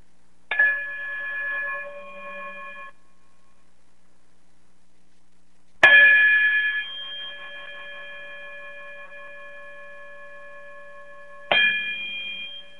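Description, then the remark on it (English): Three struck chime or bell tones ring out alone as a closing chime, spaced several seconds apart, each with a sharp attack and a long, bright ringing decay of steady overtones. “Brother Braggs, if you be so kind to chime us out, greatly appreciate you, bro.”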